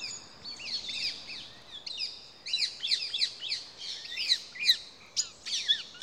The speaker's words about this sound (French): Oui, si je vous dis la fauvette à tête noire, ça va vous dire pas grand chose peut-être, mais en fait c'est l'oiseau le plus commun de France, alors qu'il est inconnu des Français.